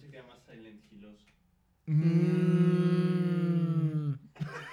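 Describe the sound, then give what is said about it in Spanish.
After some brief talking, voices let out a long, loud, steady imitation of a cow's moo, held for about two seconds before breaking off. “Y no, no somos vacas.”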